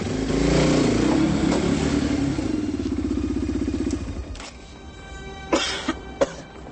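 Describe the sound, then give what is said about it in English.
A four-wheeled buggy's small motor engine rumbles and revs steadily for a few seconds with a pulsing, throaty drone as it is driven out of a trailer in dense woods, then drops away, followed by a few short, sharp clunks. “Cubby drives out a four-wheeled buggy.”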